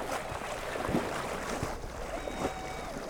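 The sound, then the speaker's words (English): A small motorboat ferrying diesel jugs hums steadily through muddy floodwaters, its engine drone mixed with splashing and churning wash, fairly loud, with no one talking. “He's ferrying diesel jugs to neighbors so they can run generators to pump the water from their homes since power was cut Wednesday morning as the river level rose.”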